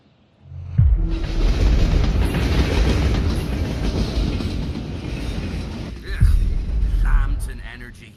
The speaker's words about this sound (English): On your right, you'll hear a train approaching the city gates.